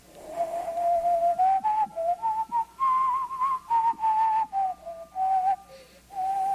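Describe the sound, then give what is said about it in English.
A person whistles a short melody through their teeth with a clear, pure tone, fairly loud, the notes rising and falling in phrases separated by brief breaths, with no talking. “And then you have someone who can whistle through their teeth and the...”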